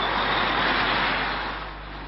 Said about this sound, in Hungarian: Közben nyeli a port, füstöt és hallgatja a városon átdübörgő kamionokat.